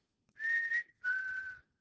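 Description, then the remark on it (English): A person whistles a two-part bird call: a steady high tone that dips briefly, then a second long note slightly lower and gently falling, imitating a bird's song with no talking. “I'm probably way out of tune from that bird, but and so this bird will start to, and another bird will answer it.”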